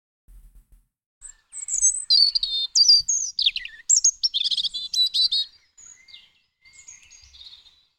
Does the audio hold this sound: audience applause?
no